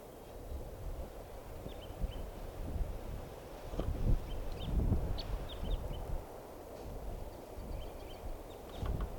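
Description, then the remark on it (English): Short, high chip notes of Type 3 red crossbills come in scattered bursts over steady wind rumble and low buffeting noise, with no voices. “Type 3 crossbill here.”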